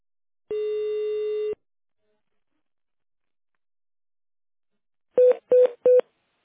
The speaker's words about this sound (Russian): Наберите в тональном режиме внутренний номер сотрудника или дождитесь ответа секретаря.